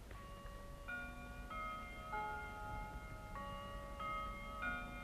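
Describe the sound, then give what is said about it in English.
A clock chimes a slow melodic sequence of ringing bell-like notes, each struck tone lingering into the next, fairly quiet over a low background rumble. “Did you hear it chime?”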